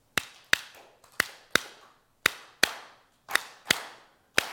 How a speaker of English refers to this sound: This is an elderberry clapper stick. It's made from elderberry wood. It's simply split, hollowed out, and it keeps the rhythm of the song. So clap your hands to this beat.